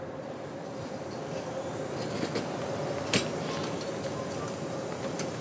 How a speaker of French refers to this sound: C'est quoi ce bruit de ouf ? Regarde, maman, le drone. On dit un drone, ma chérie. Pourquoi il suit le monsieur ?